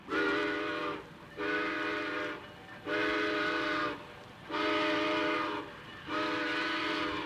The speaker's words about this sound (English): Hurry up, Frosty. The train is pulling out.